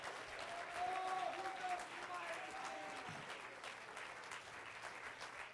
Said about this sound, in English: Clap your hands. Give him praise. Give him thanks. Magnify his name.